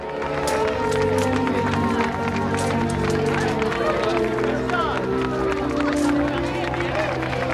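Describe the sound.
A dense, steady wash of crowd noise with applause and scattered cheering, loud and continuous, with voices mixed into the din throughout.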